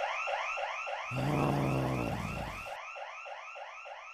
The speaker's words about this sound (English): He did not do a good job entering the museum undetected. He was detected, and the alarm went off.